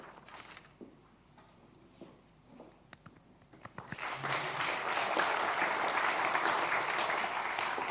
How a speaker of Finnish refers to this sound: Taputtakaa niin kauan, tulee takaisin.